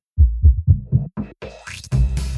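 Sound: heartbeat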